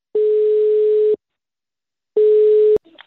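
A telephone ringback tone while calling Kronobergshäktet, a jail: two steady one-second beeps separated by a pause, the second cut short by a sharp click as the line picks up, followed by faint rustling.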